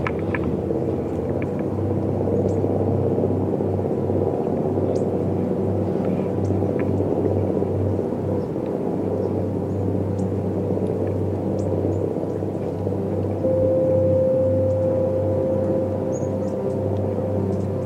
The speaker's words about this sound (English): Maybe you could just kind of dig the fluttering sound of the chopper. That's not bad. Listen to it. Its tone is improving. You hear that? Kind of got a fluttering thing going now.